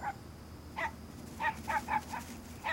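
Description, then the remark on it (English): A dog barks in a run of about six short, sharp, fairly high-pitched yaps, irregularly spaced, over a steady low background rumble. “What's that? A dog?”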